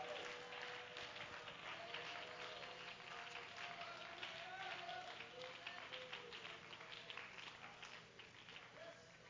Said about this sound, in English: Stand up and give the Lord a hand clap of praise and love him.